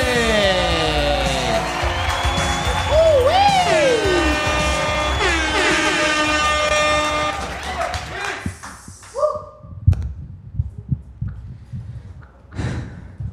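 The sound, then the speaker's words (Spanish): An audience applauds and cheers loudly as the next person is introduced, with rising whoops and shouts over dense clapping for several seconds, then the noise dies away into scattered claps and murmurs. “¡Fuerte aplauso”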